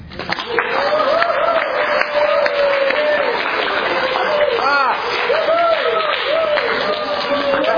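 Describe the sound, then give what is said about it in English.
An audience breaks into sustained, steady applause lasting several seconds, dense clapping holding an even loudness throughout while a voice or two carries on talking over it. “So if you enjoyed your own en-suite, a round of applause for you know who.”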